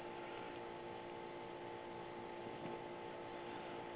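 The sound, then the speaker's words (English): An air conditioner hums steadily in the background throughout, a constant droning whir with a faint tonal whine, fairly loud and unchanging, with no voices. “That noise in the background is horrible. Yeah, I know. It's my damn air conditioner.”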